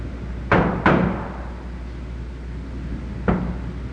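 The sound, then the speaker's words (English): Heavy banging on a door: two loud thumps in quick succession, a pause of a few seconds, then one more hard bang, each ringing briefly over a low background rumble. “They will not answer the door.”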